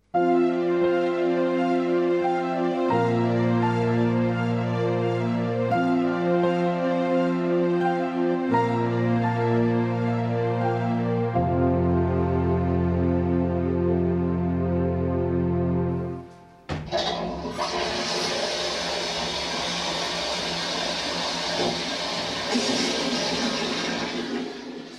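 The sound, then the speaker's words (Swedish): An old high-tank toilet flushes in Strindberg's home: a loud, steady, droning tone steps between pitches for about sixteen seconds, then a sudden roaring rush of water takes over and continues strongly to the end. No one speaks. “Befinner sig i Strindbergs bostad, och det ni hörde här just nu, det var en högspolare, en toalett som spolade”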